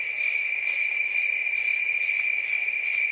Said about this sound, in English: I think crickets are needed here. Yeah, we need crickets.